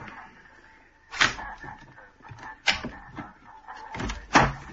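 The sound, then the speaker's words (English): A shop door is unlocked and opened just after 7 o'clock for customers waiting at the door: a few sharp clunks and rattles spaced over several seconds, with a faint steady hum underneath and no one speaking. “Customers at the door, it's gone 7. Are you going to open up?”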